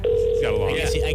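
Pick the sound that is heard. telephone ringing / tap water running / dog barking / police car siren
telephone ringing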